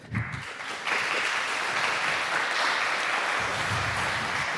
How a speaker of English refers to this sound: Wow, an applause even before it got started. That's nice. I haven't done anything yet.